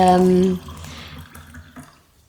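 Water is poured into a glass, starting with a loud, ringing gurgle that gives way after half a second to softer, uneven trickling and splashes that fade out.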